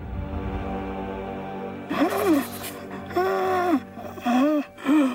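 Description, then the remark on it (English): A man gasps repeatedly for breath as his oxygen reserves are exhausted, several strained, voiced inhalations in quick succession, fairly loud, after a short stretch of low background hum. “gasps for breath as Cosmos floats in the starry sky towards Mars One.”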